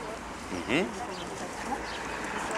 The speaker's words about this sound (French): Promenade sonore dans le quartier de la Pardieu, samedi 20 mai 2017. Beaucoup d'échanges des oiseaux.